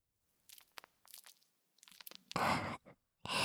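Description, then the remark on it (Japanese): Soap foam is squished and lathered: soft crackling bubbly bursts at first, then loud, wet, hissing squelches in two long surges with a short one between. No one speaks. “はいはい、それじゃあ早速こうして泡を集めて、はい、おちんちんを泡にします。”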